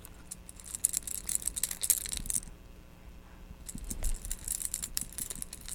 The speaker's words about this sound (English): How about some keys? Should we put some keys on the plate? Do we eat keys? Is this like mommy's keys? They make nice rattling sound. Do you want to hold them? Do you want to hold the keys?